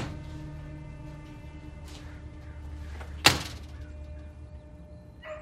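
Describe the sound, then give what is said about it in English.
An unlatched back door is pushed open by its handle, with a single sharp click-thump of the latch and handle standing out from a steady low hum, followed by quiet rustling. “She peers inside, goes down a step, and walks to her back door, which is unlatched.”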